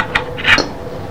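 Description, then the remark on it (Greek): Two quick, light clinks of a gold spoon against a coffee cup as a spoonful of sugar is stirred in, bright, the second slightly fuller than the first, with no one talking. “Πω, δεν έχω ξαναπιεί καφέ με χρυσό κουτάλι.”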